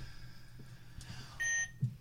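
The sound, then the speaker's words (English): A single short electronic buzzer beep, recorded as the buzzer for a mystery object guessing game, steady and bright with a buzzy edge, sounding once at moderate volume over a faint background hum, followed by a soft low thump. “Right, so hang on, we're going to record our buzz.”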